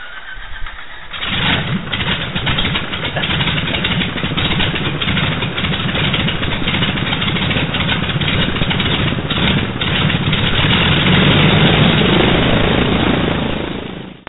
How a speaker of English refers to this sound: Okay, I hope some of our mechanic and pilot connoisseurs here don't hear anything irregular about this engine. We hope we've cleared the problems up, but anyway, stand back and clear.